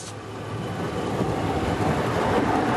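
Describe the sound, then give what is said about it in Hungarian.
A diesel motor train rolls past at a railway crossing where trains may only travel at 10 km/h, a steady loud rumble with faint rhythmic wheel thumps underneath, continuing without any voices. “Ez az a hely, ahol kisiklott péntek éjszaka egy ehhez hasonló motorvonat.”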